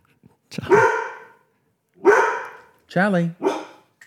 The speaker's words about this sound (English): Charlie. We've got Charlie the studio dog here as well, and I think something has set him off.